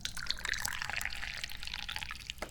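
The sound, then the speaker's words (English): Dahong Pao tea pours steadily into a cup, a continuous trickle with bright splashing and bubbling for a couple of seconds, no voices. “Once again, today we are drinking the Dahong Pao. Yeah, I'm probably going to drink Dahong Pao all day. I haven't decided yet. Let's pour some more.”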